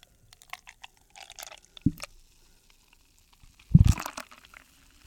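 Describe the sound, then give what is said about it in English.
Market Garden Brewery Cosmic Haze beer glugs and splashes into a glass in a loud burst near the end, with scattered fizzy crackles and small drips before and after. No one speaks. “Get the pour going.”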